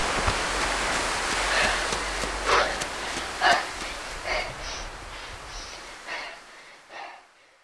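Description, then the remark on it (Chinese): Steady, dense hiss of heavy rain pouring down on a farm where rice is being threshed, with a few louder gusting surges along the way before it gradually thins out and fades at the end. No voices. “下大雨了，小霞，快跟妈妈跑，赶快躲雨去。”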